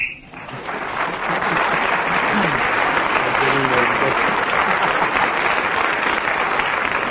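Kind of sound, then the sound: signal or alarm, game show whistle blown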